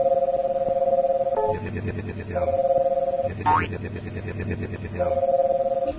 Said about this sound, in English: Now what this does is a scan of the grid to tell me where I have electrons left. Now, what you're going to hear is the chirping sound for an empty space, and a quick yum sound for the electrons that are left over.